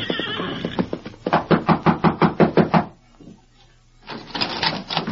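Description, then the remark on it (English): An exhausted horse whinnies briefly, then a rider in gray prison denim raps on the wooden rear door of a cafe with about nine loud, evenly spaced knocks. After a short quiet pause comes a burst of rustling, shuffling noise. “Sometime later, a grim-faced rider dressed in the gray denim of a prisoner flung himself from the back of an exhausted horse and knocked at the rear door of the Rainbow Cafe.”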